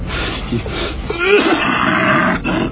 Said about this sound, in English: You know, y'all try putting a bag over your head for that cough. Works every time.